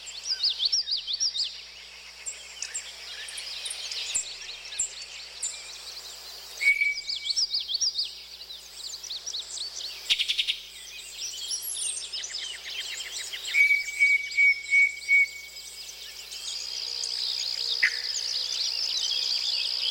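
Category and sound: bird, birdsong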